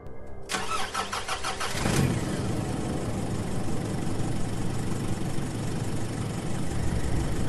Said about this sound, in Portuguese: Os pneus chiaram quando acelerei, e um momento depois, estávamos acelerando para longe.